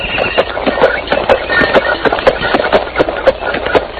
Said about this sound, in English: In the year 1896, milk was delivered in a horse-drawn milk wagon.